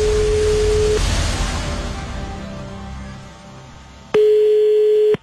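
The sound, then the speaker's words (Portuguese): A steady electronic telephone call tone on a cell phone, faint at first beneath a rushing hiss, then returning loud and clear for about a second before cutting off. No one speaks. “Mas o que ela não esperava é que seu clone também iria ligar no seu celular.”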